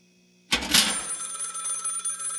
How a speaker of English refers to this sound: Are you going to get that? The mail or the phone? The mail. The answering machine will catch the call.